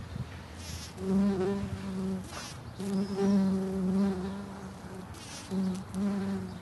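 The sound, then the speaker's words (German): Several species of wild bees buzz around flowering plants, their droning hum rising and falling in several passes with brief dips between, a steady low-pitched buzz with no voices. “Was sind das für Viecher, die da jetzt auf diesen Pflanzen rumfliegen? Es sind also verschiedene Wildbeinarten.”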